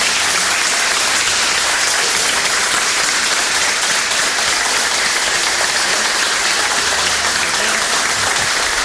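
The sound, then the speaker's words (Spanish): A crowd of attendees applauds steadily and loudly for people retiring that day, a dense, sustained wash of clapping from many hands that continues evenly for several seconds with no voices standing out. “Fuerte el aplauso de todos los concurrentes.”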